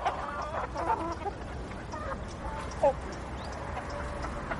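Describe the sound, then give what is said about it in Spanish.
Chickens eating, clucking softly and continuously, with short warbling calls over a busy background of scratching and rustling, and one louder squawk near the end. “Delante de él están las gallinas comiendo.”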